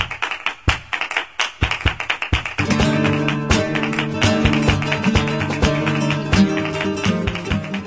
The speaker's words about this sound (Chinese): 这吉他的节奏声真有力，还有踩踏和击掌声哎，这是什么表演呀？